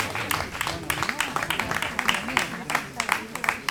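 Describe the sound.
An audience claps steadily, many quick overlapping hand claps forming a dense, crackly patter, with voices murmuring underneath throughout.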